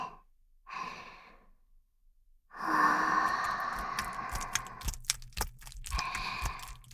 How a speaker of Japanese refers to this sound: お顔にもあったかい吐息かけてあげるね。